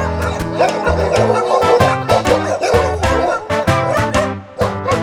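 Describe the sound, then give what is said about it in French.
Sheepdogs bark in quick, repeated bursts, loud, over a steady bed of sustained musical tones. “La chèvre ne pouvant plus défendre sa terre, belle et hurle si fort que du fond des grands bois surviennent en renfort des troupeaux solidaires et des chiens de berger qui donnent de la voix.”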